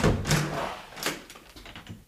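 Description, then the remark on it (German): A door to the outside, where sheep are, is opened, with a short clunk of the latch followed by a second thud and faint rustling movement, and no voices. “Draußen bölken die Schafe, wenn ich die Tür aufmache.”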